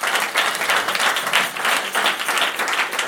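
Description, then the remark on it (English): A crowd applauds the musicians steadily, dense clapping from many hands at a fairly loud, even level for a few seconds, with no voices standing out. “A round of applause for our musicians.”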